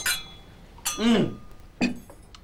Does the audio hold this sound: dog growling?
no